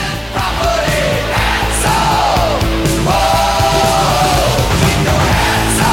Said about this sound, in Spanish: Los aplausos. Los aplausos están por todo el tema. Hasta los aplausos están sintetizados.